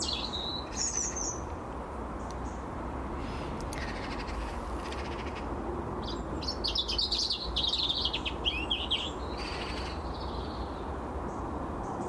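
bird, birds singing

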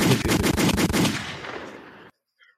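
sound effect, gunshot sound effect

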